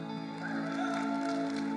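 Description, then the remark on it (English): Light, scattered applause from the audience at Brave Church, a polite golf clap given in reply to a morning greeting. A soft patter of many hands claps steadily over a low, continuous hum, with no voices standing out. “That was a bit of a golf clap.”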